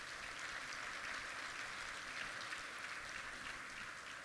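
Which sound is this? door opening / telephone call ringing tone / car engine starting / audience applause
audience applause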